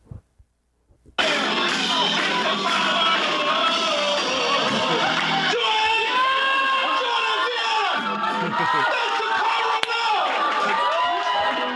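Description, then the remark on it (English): A loud, dense concert crowd at a three-piece band's show roars and yells after a brief quiet start, with overlapping shouts and screams sustaining a continuous wall of cheering. “Plus, the band members were laughing and like in shock and clapping too hard. Here's what it sounded like.”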